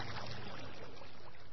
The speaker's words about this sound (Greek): Κανονικά λοιπόν, το νερό που ρέει από τις διάφορες κρίνες δεν είναι πόσιμο. Το νερό όμως μιας ορισμένης κρίνης μπορεί να το πιει κανείς. Έχει βέβαια απέσια γεύση, αλλά είναι υγιεινό.